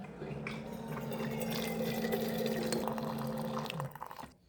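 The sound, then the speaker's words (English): Water is poured steadily onto coffee grounds for about four seconds, a continuous splashing stream with a faint rising fill tone, then stops abruptly. No one speaks. “We're going to pour water on the grounds, and then we're going to smell it again.”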